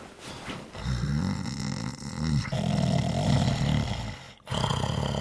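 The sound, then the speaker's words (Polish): Loud, rasping snoring from a man sleeping in bed, with long rumbling breaths that rattle and swell, one running into the next, and a brief pause near the end. “Nie wstawaj, tylko się obróć na lewy bok, na tym strasznie chrapiesz.”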